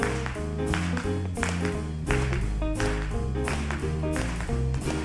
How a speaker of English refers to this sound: Y'all got that? Come on, let's get some clapping going.